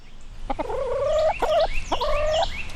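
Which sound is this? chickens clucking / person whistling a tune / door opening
chickens clucking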